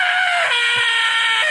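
A man lets out a sustained, loud scream, strained and harmonically rich, holding it steadily with a brief dip midway before pushing on again, alone.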